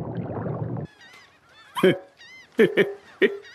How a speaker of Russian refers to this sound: Чернохвостые чайки. Где? Это не сизые чайки, а чернохвостые. Как их отличить? Чей крик похож на мяуканье, чернохвостые.